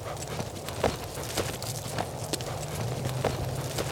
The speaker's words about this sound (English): practicing barrel racing with her horses